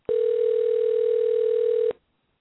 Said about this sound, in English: Can you guys hear that? Yeah, I hear that. Yeah, I hear that. The phone's ringing? Not anymore.